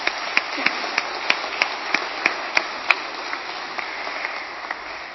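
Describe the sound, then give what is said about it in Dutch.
A small crowd applauds steadily, a dense patter of claps with a few sharper, louder claps cutting through at a quick, fairly regular pace, gradually thinning toward the end. “Ja, ik vind het ook een applaus waard.”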